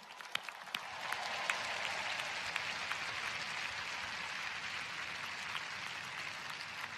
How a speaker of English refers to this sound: Here on Father's Day, let's give the dads in particular a round of applause.